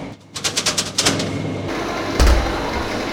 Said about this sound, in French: Donc, vous allez entendre une plaque rentrer dans un frigo.